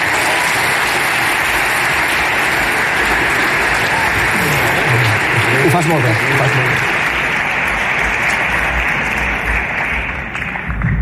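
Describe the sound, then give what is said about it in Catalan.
Sustained applause from an auditorium audience at the 26th Premis Enderroc awards ceremony, greeting the editorial director of the Enderroc group: a dense, steady wash of clapping that holds loud for about eleven seconds, with a few voices briefly audible underneath before it tapers slightly at the end. “Heu d'aplaudir moltíssim ara.”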